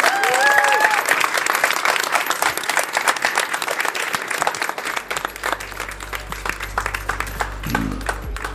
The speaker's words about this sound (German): mag ich euch mit einem tollen Jubel verabschieden. Vielen, vielen Dank.